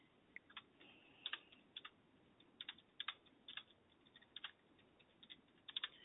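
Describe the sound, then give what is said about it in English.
Irregular bursts of keyboard typing as someone types up notes, a couple dozen soft keystroke clicks clustered in quick runs with short pauses, fairly quiet, with no voices. “If I do go silent at any point, Colin, it's just me typing up notes”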